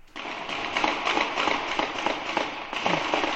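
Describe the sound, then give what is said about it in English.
A sustained barrage of police gunfire into a suspect's boat near Franklin Street in Watertown, more than 200 shots, recorded on a cell phone video at the scene. Dozens of sharp shots crack in rapid, overlapping succession; the volley stays loud and dense throughout, with no clear pause and no voices. “They're shooting at that boat. There were more than 200 shots fired into the boat.”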